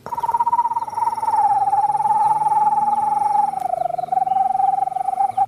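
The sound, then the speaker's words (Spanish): A person imitates the call of an owl, the tecolote rítmico, with a long, steady, mid-pitched hooting tone that trills rapidly and evenly, holding for about five seconds with a slight dip in pitch near the end. “Otra de mis favoritas, que es un bú, que se le hace tecolote rítmico y le hace.”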